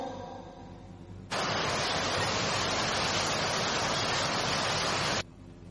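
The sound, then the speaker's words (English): A loud, steady rush of sea waves around a ship at sea washes in abruptly and holds for about four seconds before cutting off, with no voices over it and only faint background before and after. “S for ship.”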